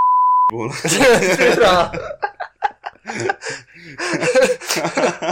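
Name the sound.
censor bleep tone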